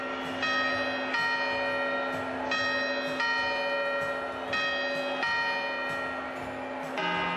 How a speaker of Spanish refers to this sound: Ahí está, la primera, después de los cuartos, ya sabéis, las campanadas.